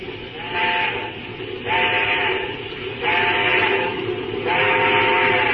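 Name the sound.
steam locomotive whistle blowing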